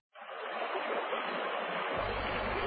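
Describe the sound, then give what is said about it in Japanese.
Steady rushing of the meandering Kumano River tumbling over shallow rapids in front of a south gate at Oyunohara, a broad continuous hiss that starts abruptly and holds even, with a deeper low rumble joining near the end. “南門の前には蛇行する熊野川の流れが迫る。”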